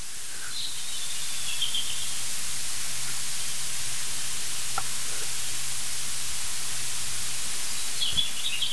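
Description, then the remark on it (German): A European robin sings faintly in short, high, thin warbling phrases near the start and again at the end, barely rising above a steady, loud hiss of static. No one speaks. “Wir hören sogar ein Rotkehlchen singen.”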